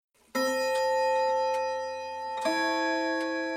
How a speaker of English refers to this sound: Next moment he'd be back chatting and spinning yarns, and in the corner the Neptune clock chimed out its creamy slice of days.